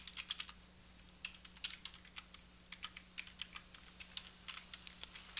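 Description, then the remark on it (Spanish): Rapid, uneven computer keyboard typing of login credentials for connecting to Azure Active Directory, with dozens of crisp clicks in quick bursts and short pauses, fairly quiet over a faint steady hum, with no talking. “Hacemos enter y aquí nos va a pedir las credenciales con las cuales nos vamos a conectar a Azure Active Directory. Vamos a digitarlas.”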